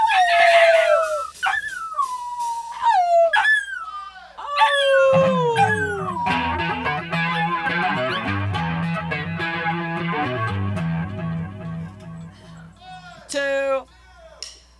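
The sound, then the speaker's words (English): A human voice imitates spider monkey calls during a recorded take: a run of high, falling whinny-like squeals, then a busy, layered stretch of sound, and a final burst of sharp cries near the end. “Okay, we're rolling on the spider monkey.”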